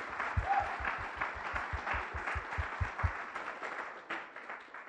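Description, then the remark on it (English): An audience breaks into sustained clapping, a dense wash of many hands with a steady rhythmic thump underneath, then thins out and fades over the final second. “Oh yeah, you can clap.”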